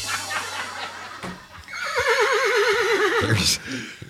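A horse sound effect: a horse whinnies once, loud, a high, shaky neigh that warbles for over a second before breaking off in a short breathy snort, with no voices.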